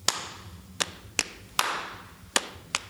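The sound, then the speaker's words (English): A short run of hand claps and pats on the legs in a rhythm exercise where white notes are patted on the leg and black notes are clapped, about six sharp hits in a loose, uneven rhythm, with no voices. “But I say to them, if you've got a white note on your leg, if you've got a black note, clap.”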